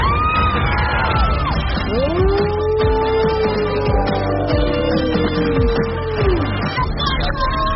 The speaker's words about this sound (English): They're cheering you on.